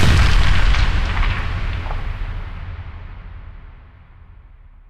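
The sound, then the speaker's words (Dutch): A loud burst of gunfire, several shots fired together in a single heavy blast, followed by a long rumbling echo that slowly fades over a few seconds. No voices are heard. “De stilte na de kogels viel en bleef vallen.”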